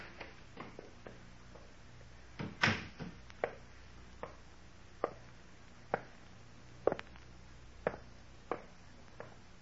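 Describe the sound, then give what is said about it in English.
A series of sharp clicks and wooden knocks at a front door, like someone letting themselves in, repeating unevenly about once a second at moderate volume, with no voices. “There's someone at the front door.”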